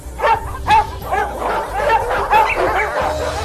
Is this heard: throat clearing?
no